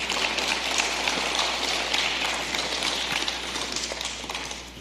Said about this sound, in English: Let's give the Lord another hand clap of praise tonight.